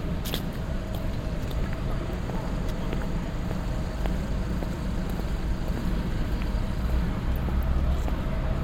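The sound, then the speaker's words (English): A steady, low rumble of street traffic by Liverpool Station, constant, with scattered faint clicks and taps over the top and no single car clearly standing out. “Cross over to Liverpool Station. Watch out for cars here.”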